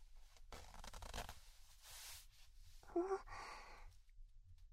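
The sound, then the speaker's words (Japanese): A trouser zipper is drawn down in a few short, rasping bursts, fairly quiet, followed by a soft breathy sound and faint rustling. “チャックを下ろさせていただきますね。”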